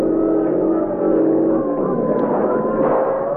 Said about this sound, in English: Police boat coming fast.